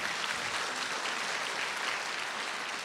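An audience at a church sermon breaks into sustained applause for God, a dense, steady wash of many hands clapping at an even volume throughout, with no voices standing out above it.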